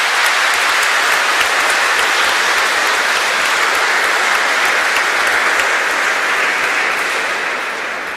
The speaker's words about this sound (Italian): E possiamo fare anche un applauso per questa coppia?